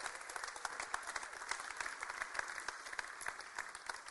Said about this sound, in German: Einen Applaus für die Geschwister, die hierbei sind.